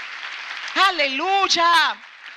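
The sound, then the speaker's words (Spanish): A steady wash of crowd applause runs throughout, with a loud, drawn-out voice calling or cheering over it for about a second in the middle before the clapping continues alone. “Si ese es el aplauso para tu padre, dáselo bien.”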